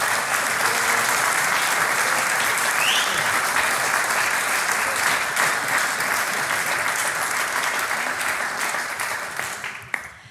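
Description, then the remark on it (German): Sustained applause, a dense, steady wash of clapping that holds strong for about nine seconds before fading out near the end, given from the stage to the audience at the close of a live radio show at Closed Home. “Und der nächste Applaus kommt von der Bühne an unser Publikum. Danke euch. Applaus.”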